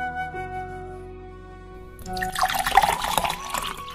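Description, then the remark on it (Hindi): Cold drinking water pours into a glass, a splashy gush that begins midway and keeps going to the end, following a quiet stretch with a steady low hum. “माँ पहले एक गिलास ठंडा पानी पिलाओ, बहुत प्यास लगी है।”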